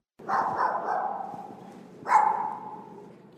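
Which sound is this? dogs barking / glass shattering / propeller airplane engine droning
dogs barking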